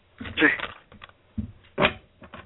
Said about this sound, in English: I'm going to shuffle until you tell me to stop.